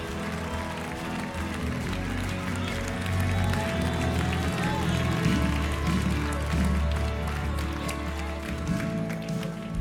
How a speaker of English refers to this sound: Now give the Lord a clap offering of praise. Give him praise. Come on, give him glory. Come on, give him praise. Give him glory.